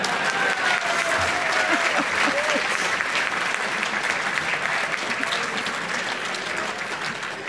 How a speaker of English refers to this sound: You should have clapped with that one.